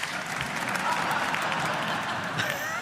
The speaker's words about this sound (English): I love it how they're all clapping just for Joker